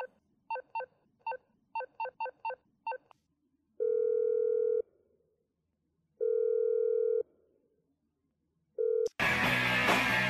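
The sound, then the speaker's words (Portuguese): A quick string of about nine telephone keypad beeps, then a steady ringback tone pulses three times with pauses between. A sudden loud burst of noise cuts in at the end. “Galera, pera rapidinho. Vai rapidinho o telefone.”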